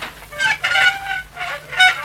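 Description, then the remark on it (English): A door leading to a flight of stairs creaks open in three squealing, drawn-out groans with a harsh, tonal edge. Each creak rises and fades before the next. Nobody speaks. “Now, to open this door.”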